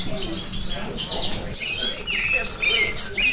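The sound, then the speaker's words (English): Several high bird chirps and tweets from plush toy birds, pressed in the middle, each making chirps that match its species, overlap in quick, uneven bursts, some brighter and louder near the end, over a steady low background rumble. “Each toy bird makes chirps that match their species.”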